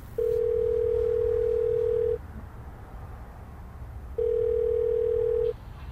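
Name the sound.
telephone ringing tone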